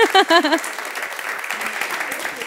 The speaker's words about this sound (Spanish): Así que un aplauso.